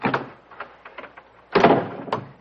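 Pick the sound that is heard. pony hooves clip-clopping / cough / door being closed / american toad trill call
door being closed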